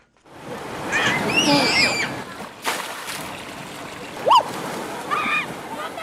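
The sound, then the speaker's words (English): Continuous splashing and rushing water fills the scene, with children's excited shrieks and calls rising over it at moments as children careen down gushing water slides into pools of fresh water at Water World, a fun park in Cape Town. “Children careening down gushing slides into pools of fresh water.”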